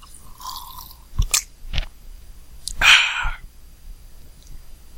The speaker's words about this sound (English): And now, after I take a sip of water,